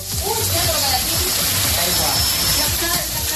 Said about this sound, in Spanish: Porque así baja ahora mismo el agua en estos momentos por las calles de Melilla, una tromba que ha inundado la ciudad autónoma en apenas media hora